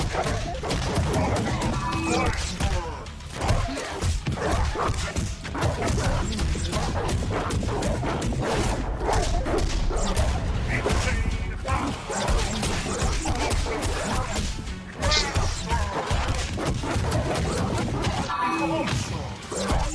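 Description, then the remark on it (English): A loud, relentless creature attack on a person: snarling growls mixed with biting, clawing, tearing, slashing and thudding impacts, all crowded together in a dense, chaotic wash of sound that barely lets up for the whole stretch. “You hear like the dude like biting you and clawing you to death? And... Wow. And you hear him like growling?”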